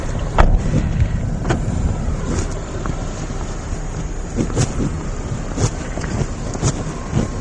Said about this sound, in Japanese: これから車を降りまして、さあ私もドキドキですね。